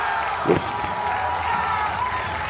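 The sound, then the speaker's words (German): A crowd applauds and cheers in a steady, dense wash of clapping and voices. It stays loud and continuous throughout, with no pause or individual voice standing out. “Boah, stell dir jetzt vor, deine letzte Lift und alle am Publikum einfach am applaudieren. Warte, wiederhole dich gleich, wenn es vorbei ist.”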